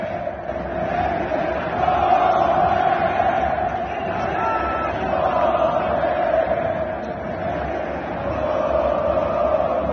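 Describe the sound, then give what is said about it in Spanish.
A dense stadium crowd of fans in Monterrey shouts and chants at Messi in a continuous, loud roar that swells and dips in waves, with no distinct words standing out. “Vamos a escuchar lo que le gritaban a Messi los aficionados tan decentes de Monterrey.”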